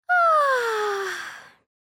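A child yawns once, close and fairly loud: a long, breathy, voiced exhale whose pitch slides steadily downward for about a second and a half before fading out. No talking.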